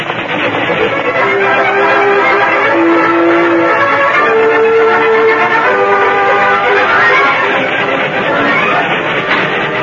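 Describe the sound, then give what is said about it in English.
A loud, steady roar of an oncoming steam train fills the whole stretch, with a churning mechanical rumble and several sustained whistle-like tones cutting in and out over the noise. “Removing his magic sheet, he waved it over his head as he rode in the middle of the track toward the shrieking iron monster.”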